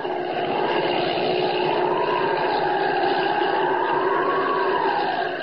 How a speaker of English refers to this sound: I'll get above it. For all I know, it may be Holbein himself. Up, up! Great Scott, it is Holbein's plane. I remember the number on it.